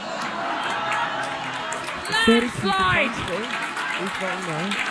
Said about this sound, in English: Landslide! Look at you clapping, baby.